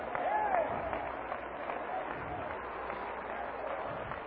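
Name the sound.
audience clapping hands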